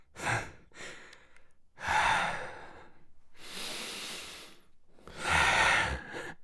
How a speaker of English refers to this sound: Just breathing with you. Getting a nice workout in.